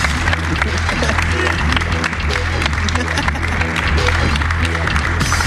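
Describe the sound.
An audience bursts into steady, sustained applause, dense clapping filling the whole stretch at a loud, even level, with a few voices and some low musical tones mixed underneath.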